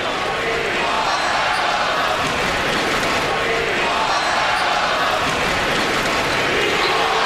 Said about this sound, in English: Is the chant of Mello. We want Melo. So there it was. They're wondering, is that the last time we're going to see him in Knicks gear?